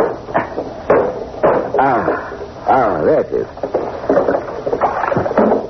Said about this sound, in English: Now, I'm going to open this window. The salt air will make you speak like a top. The sound of the waves will lull you. Seems to be stuck.